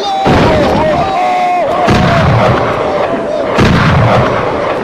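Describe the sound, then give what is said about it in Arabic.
Soldiers open fire at a target on command: heavy artillery booms land at roughly even intervals over a dense, continuous roar of gunfire, with a wavering tonal whine and indistinct shouting voices, including cries of 'Allahu Akbar', mixed into the loud barrage. “الله أكبر، أطلقوا النار وعلى بركة الله.”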